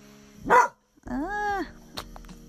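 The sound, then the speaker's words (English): A dog barks a few times outdoors at night: a sharp short bark, then a longer drawn-out, almost howling bark, and a brief yip. No one speaks, and a low steady hum sits underneath. “We have bears out here, and I hope it's a bear, not a person that my dog's barking at.”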